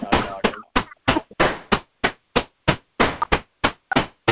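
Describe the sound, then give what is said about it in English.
Repeated hammer strikes from a participant on an online call, about a dozen sharp impacts at a steady, slightly uneven pace, each with a short ringing decay, fairly loud with no voices over them. “Somebody mute who's hammering?”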